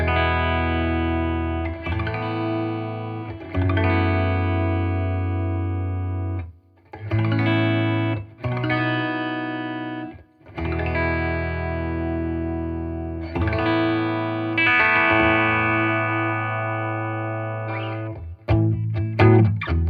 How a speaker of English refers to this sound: let's dive into a detailed playthrough of the Ibanez. We'll explore the Super 58 pickups, showcasing both clean and dirty and maybe even heavier metal tones. So let's start with the bridge pickup first and just strum some clean chords.